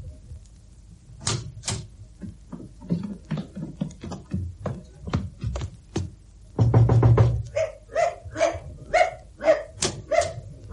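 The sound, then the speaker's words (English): A dog named Bunter barks repeatedly in sharp, loud bursts, some spaced out and others packed into quick flurries, ending in a run of higher, more tonal yelps. No one speaks. “Down. All right, Bunter, there's a good dog.”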